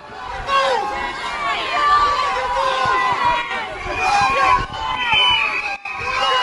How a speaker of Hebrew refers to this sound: צעקות וכללות. זה מה שקיבל אתמול ראש הממשלה של מלטה כשיצא מדיון בפרלמנט. המפגינים הכועסים צעקו לו מאפיה, והיו גם כאלה שזרקו עליו ביצים.